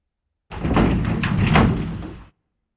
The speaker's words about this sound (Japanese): そう言って今日も私は先生のご指導を受けに、いつもの教室のドアを開けます。